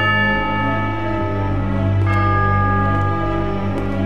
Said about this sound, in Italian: La nostra storia inizia con un suono di campane, quelle del campanile di una chiesa. Quel suono insistente, forte, festoso anche, a volte, ma che nel nostro caso suona inquietante come quello di una campana morto.